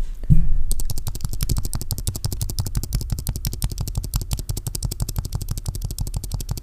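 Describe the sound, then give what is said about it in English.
Fast, continuous typing on a computer keyboard: a steady stream of crisp, clattery key clicks in a quick, slightly uneven rhythm, fairly loud and with no voices. “Okay, well, I'm gonna give you a nice ASMR of my keyboard sounds.”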